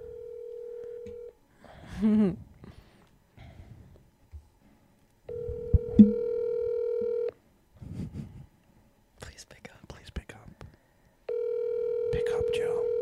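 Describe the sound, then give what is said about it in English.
A phone call rings out over a handset, with a steady electronic ringback tone repeating three times at even intervals, while people talk quietly in the pauses between rings. “if we can get Joe Buck on the phone to confirm what happened with the trash can story”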